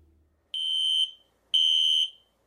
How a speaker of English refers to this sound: Okay, back to the burrito shop. I asked her if she heard the fire alarm.